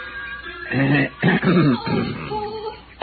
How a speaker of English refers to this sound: My cough must have been pretty frightening because the boy took off around the house like a quarter horse.